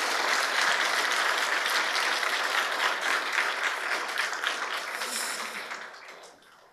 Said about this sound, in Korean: 우리 부활하신 주님 사망과 모든 저주의 권세들을 깨뜨리시고 부활하신 그 주님 우리 아까도 박수로 영광 돌렸지만 우리 큰 박수로 하나님께 영광의 박수 돌리겠습니다.